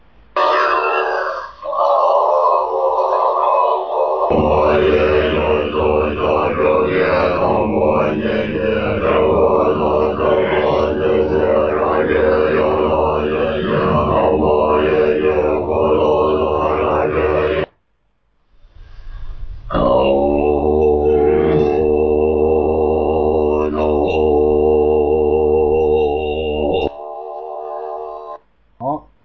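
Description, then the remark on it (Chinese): Deep, droning Tibetan throat chanting of a mantra in a low, buzzing hum rich with overtones, sustained loudly for long phrases, breaking off briefly before another long resonant chanted drone resumes. “为什么西藏所有的咒语的声音都倾向于这种嗡声？”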